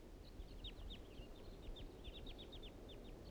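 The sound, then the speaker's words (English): Wild birds calling as they fly back around a clearing near a trap site, a quick, irregular run of many short, high-pitched chirps, fairly faint, over a steady low background hiss and rumble. No one speaks. “The wild birds are coming back. Now they're flying around the clearing.”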